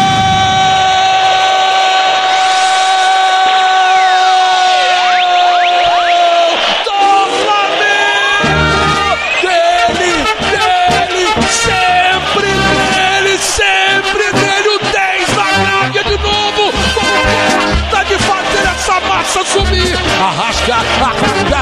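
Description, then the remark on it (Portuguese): A stadium crowd at the Maracanã roars and cheers loudly after Arrascaeta scores a goal from a Léo Ortiz pass in the 29th minute of the first half, opening with a long, sustained high-pitched shout before the dense, continuous wall of crowd noise takes over. “Sacudiu com a massa do Maracanã.”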